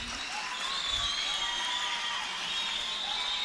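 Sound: audience cheering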